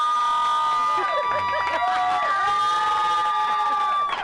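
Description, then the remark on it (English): A studio audience at NRG Stadium cheers and applauds loudly and continuously, a dense wash of clapping and whooping that fills the whole moment without a break. “Okay, yeah, and he didn't want the crowd here. He was worried about an audience because he's so introverted and shy, right?”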